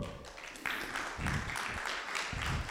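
A burst of applause from a group, steady and moderately loud, with dense, overlapping clapping that swells after a moment and carries on without a break.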